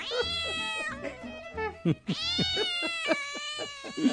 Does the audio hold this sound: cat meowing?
yes